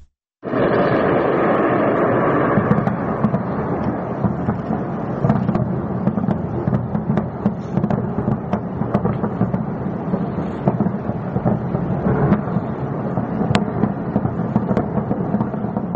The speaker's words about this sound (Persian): صدای پدافند بود که در آسمان تهران شنیده می شود. در این ویدیوهایی که منتشر شده یه اشیای پرنده نورانی هم دیده می شه که احتمالا ممکنه آتش همون پدافند باشه. فعالیت پدافندی در تهران که بیشتر گفته شده در شرق تهران شنیده شده